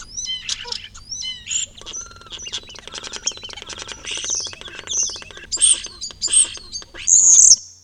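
A bird sings a long, intricate warbling song of rapid, varied notes, chirps and trills, rising to brighter high whistles near the end, with no talking. The warble is a rich, complex song type that differs between individual birds.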